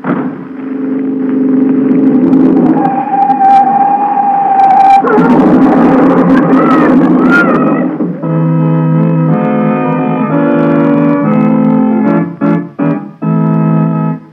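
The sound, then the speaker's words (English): A car passing in the street, heard as a loud, continuous droning, whining tone that shifts midway and breaks into a few abrupt bursts near the end. No one speaks. “Hey, boss, what's that noise? Just a car in the street.”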